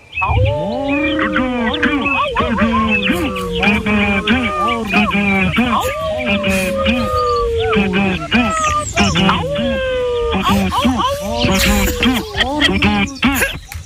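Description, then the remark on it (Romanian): Several people at once mimic forest animal calls over the telephone for International Day of Forests, each speaking as its own animal: a loud, overlapping chorus of lowing, roaring, squeaking and warbling voices that keeps going without pause for the whole stretch. “De Ziua Internațională a Pădurii, să vorbească fiecare animal pe limba lui.”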